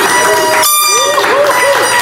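audience applause and cheering

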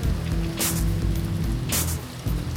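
heavy rain falling

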